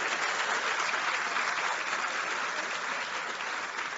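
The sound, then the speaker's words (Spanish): Sustained applause from a crowd at a government housing handover ceremony in Santiago province, Dominican Republic: a dense, steady wash of clapping that holds at an even, fairly loud level for the whole four seconds with no voices standing out. “Un aplauso.”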